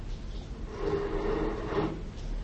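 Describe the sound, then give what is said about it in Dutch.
A wooden desk drawer slides open with a steady, scraping rumble lasting about a second, moderately loud, over faint background hiss. “De la van mijn bureau. Vlug.”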